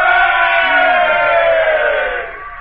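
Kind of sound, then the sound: crowd, crowd of people shouting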